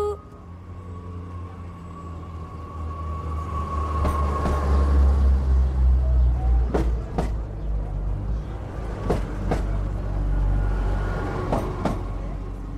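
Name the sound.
train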